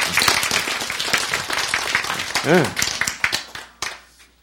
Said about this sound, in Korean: 박수.